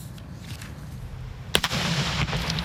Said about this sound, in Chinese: 为了准备庆祝的活动呢，美国的消费品的安全委员会星期3演示了烟花的破坏力以及造成人员伤亡的潜在可能性。